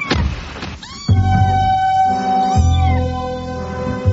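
A kitten meows loudly, a few drawn-out, wavering cries in a row with short pauses between them and no voices.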